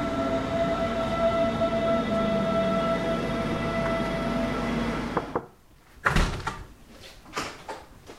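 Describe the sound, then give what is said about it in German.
Steady rumble and tonal hum of an S1 S-Bahn commuter train in motion toward Freising, sustained for several seconds, then a sudden drop to quiet followed by sharp clunks and bangs like doors or carriage fittings. “Also ab in die S1 und raus nach Freising zum Campus Weihenstephan.”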